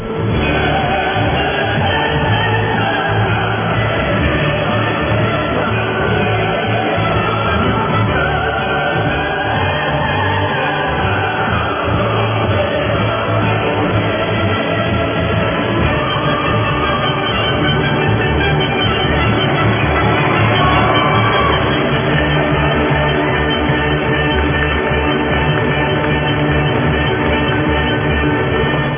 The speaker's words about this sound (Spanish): Vamos a darle los aplausos, pues, se los teníamos pendientes.